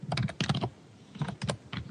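Loud, fast typing on a computer keyboard, with clustered keystrokes coming in quick bursts separated by brief pauses, and no voices.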